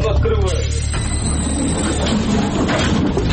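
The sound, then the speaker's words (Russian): A suburban electric commuter train of Ukraine's railway, on the Sloviansk–Fenolna route toward the front line, rumbles steadily on the rails, with a loud low drone, rattling and faint squeals throughout, while a voice talks over it near the start. “Пригородная электричка «Славянск-Финольная».”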